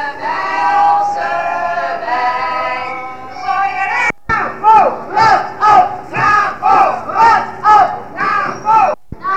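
A crowd of roughly 1000 demonstrators arriving at the Stopera, in very cold weather, shouts in a long sustained roar for about four seconds, then breaks into a rhythmic chant of repeated loud bursts in a steady beat.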